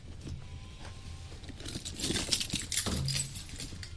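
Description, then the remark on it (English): Keys on a keyring jangle in a loose burst of bright metallic clinks and rattles, fairly soft, swelling in the middle and then trailing off, with no one talking. “You think I have enough keys now? I'm like a jailer.”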